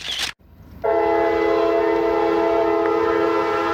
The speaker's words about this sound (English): Here comes a train now, cruising on by. I'm probably 50 to 60 feet from the railroad track. There's a creek between the track and a stand of trees. So I can see the train through the trees,